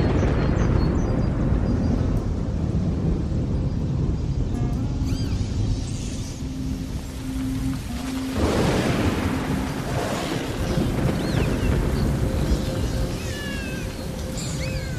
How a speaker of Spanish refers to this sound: Pero una noche todo cambió. Empezamos a escuchar relámpagos y truenos.